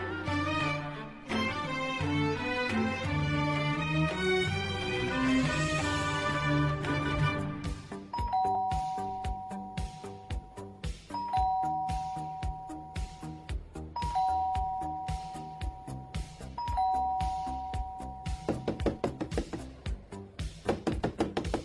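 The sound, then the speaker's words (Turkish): A doorbell rings repeatedly, four separate two-tone chimes at a steady pace, each a clear bright tone holding briefly, sounding over a busy musical background with no one speaking. “Kapını çaldığını işitmedim.”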